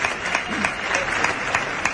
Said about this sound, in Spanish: Bueno, la ovación ahora que está obligando a salir a Pablo Aguado allá al tercio. Lo que hace ahora. Y escuchen la ovación.